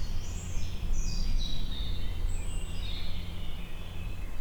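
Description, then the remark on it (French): Birds sing outdoors, soft high chirps and warbling phrases drifting over a steady low rumble of wind or ambient noise, with no one talking. “Et les oiseaux, c'est bien, non? Les oiseaux, ça nous détend.”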